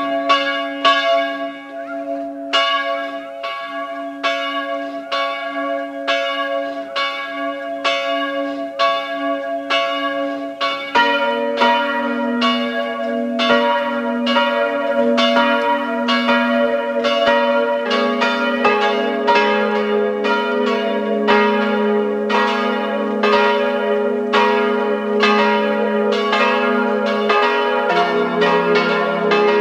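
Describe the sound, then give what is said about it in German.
The bells of the parish church of Goldegg, Land Salzburg, peal steadily and loudly at 12 o'clock noon, several bells striking in a continuous overlapping rhythm with sustained ringing tones, no voices present throughout. “Es läuten die Glocken der Pfarrkirche Goldegg, Land Salzburg.”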